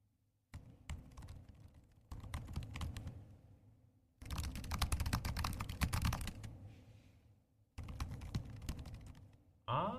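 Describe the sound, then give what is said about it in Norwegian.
Rapid typing on laptop keyboards in several separate bursts, first on an Air, then on a Pro, then on an Air again, fairly loud, with short pauses between stretches; the keystrokes in one burst sound denser and louder than the others. No one speaks. “Og da skal jeg først ha lyden av en Air, så en Pro, og så en Air igjen.”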